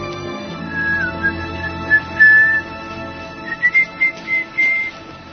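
person whistling a tune

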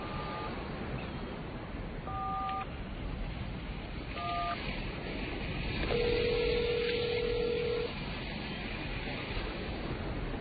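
telephone number being dialed

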